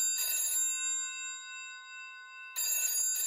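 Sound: telephone bell ringing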